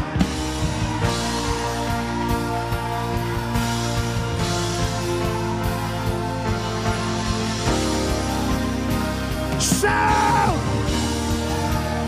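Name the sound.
audience shouting in church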